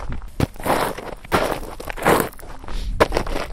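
Crunchy footsteps tread steadily over a gravelly path in San Millán de la Cogolla, La Rioja, each step a broad scraping crunch in an uneven walking rhythm, fairly loud with no voices.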